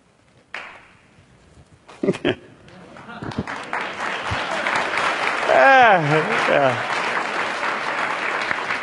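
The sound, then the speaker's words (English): An audience at a workshop breaks into sustained applause, steady and fairly loud, after a few scattered opening claps. Voices rise briefly over the clapping partway through, including a higher whooping cheer. “It's a one clap workshop.”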